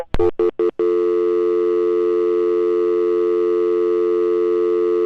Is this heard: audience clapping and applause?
no